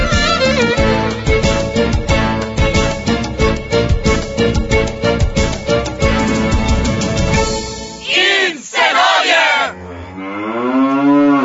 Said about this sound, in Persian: گاو بود که شنیدی.